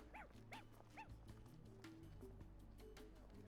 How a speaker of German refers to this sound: Von Bellen gestresster Hunde.